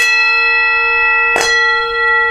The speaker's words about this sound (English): Yet more should have I heard, more had I said, when thus sudden and clear sounded the bells.